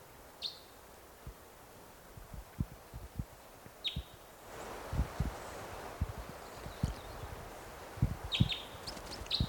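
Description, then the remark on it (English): A red crossbill, a lone orange-colored male perched in a tree above a net site, gives brief, high chittering calls in three spaced bursts, the last a quick cluster of notes, over a steady run of low, soft knocking thumps. “Chitter there.”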